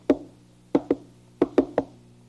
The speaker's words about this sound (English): Today I brought a board and some rope. What would you do with a board and some rope? Well, we could knock on the board.